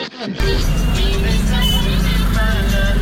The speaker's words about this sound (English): It was like window wipers going at full pelt, water running down the streets at the same time as dealing with all of the traffic that's going on the Kathmandu streets.